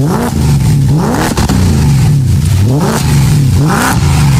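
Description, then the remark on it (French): A fully restored Renault 18 car engine revs repeatedly, the pitch climbing and dropping in several surges about a second apart, loud with no talking. “C'était une Renault 18 retapée de la tête aux pieds.”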